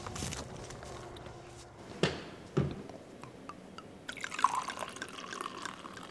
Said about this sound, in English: Chuck pours a cider called Jupiter's Legacy.